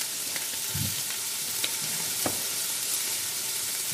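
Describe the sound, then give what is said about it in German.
Meat being briefly seared sizzles steadily in a hot frying pan, a dense crackling hiss filling the whole clip, with a few soft clicks and low thumps of stirring. “Oh, ich liebe es, wenn es brutzelt.”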